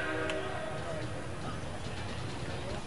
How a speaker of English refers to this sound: They play a train sound when they get to 2 strikes here. There's a Metro North station not all that far from the stadium. I guess that's why.